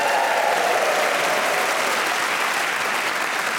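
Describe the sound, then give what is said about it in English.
A studio audience on the show Just a Minute applauds loudly and steadily for several seconds, greeting panellists Julian Clary, Laura Smith, Desiree Birch and Paul Merton: a dense wash of clapping with some cheering mixed in near the start and no one speaking. “Please whoop and cheer for all of them.”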